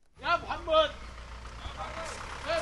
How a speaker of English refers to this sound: I'm standing at the border between Turkey and Syria, and this road is clogged with trucks and taxis. There are mountains of Pampers for babies, macaroni, rice. Every truck is loaded with goods on the way into Syria.